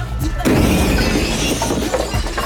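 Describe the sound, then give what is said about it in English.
A loud explosion bursts suddenly at a window of a half-demolished school building, followed by a sustained crash of shattering glass and scattering debris, glass and paper fragments spewing into a litter-strewn yard, rattling and tinkling for a couple of seconds. “An explosion at a window of the half-demolished school building spews fragments of glass and paper out into the litter-strewn yard.”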